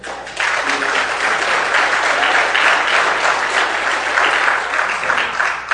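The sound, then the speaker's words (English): A crowd at a sermon breaks into sustained applause for a woman who stood up and said one word, many hands clapping in a dense, steady wash that swells quickly and holds loud for several seconds without any speech. “She stands up and says one word and you clap for her.”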